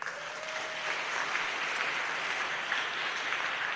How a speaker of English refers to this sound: They deserve a big round of applause, too.